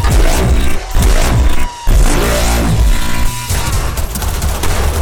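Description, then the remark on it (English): Loud gunfire crackles in rapid, overlapping bursts, a dense barrage of shots with a brief lull before the firing resumes, filling the whole stretch with no voices. “Gunshots on sight. Gunshots, it's easy.”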